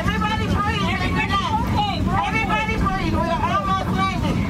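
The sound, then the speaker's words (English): A loud, steady roar fills the cabin of a Southwest Airlines jet during an in-flight emergency for the whole stretch, with several voices talking over one another, the crowded chatter rising and falling above the constant rumble. “Tonight, new video from inside that Southwest jet revealing the terrifying moments in the air.”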